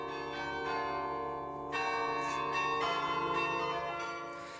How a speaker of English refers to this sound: I'm sure that most of you recognize this. It's Merk Toch Hoesterk, our interval signal that would announce Radio Netherlands' arrival to the shortwaves. And we'll play the bells to the end.